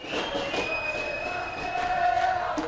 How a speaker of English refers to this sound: clapping and pumping her fists in the middle of the procession through the narrow streets.